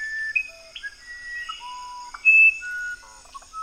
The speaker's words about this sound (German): That was a musician wren. Little tiny bird with some of the wrens have the most beautiful voices in the world. Eine Zaunkönigart aus Peru. Ein winzig kleiner Vogel.